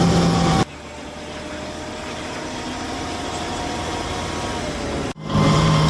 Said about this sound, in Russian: Зараз у броньованому автомобілі їдемо на мінометну позицію.